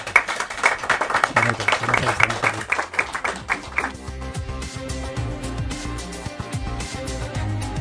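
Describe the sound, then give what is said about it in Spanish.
A radio programme's studio audience of visiting friends breaks into loud, dense applause that fills the first half, then the clapping thins and fades beneath voices and low murmuring. “Damos un aplauso porque se nota que estáis aquí.”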